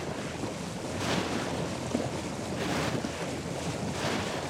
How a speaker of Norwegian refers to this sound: Snur du båten og kjører mot bølgene, kjenner du bølgedunkene mot skroget i en hurtig rytme.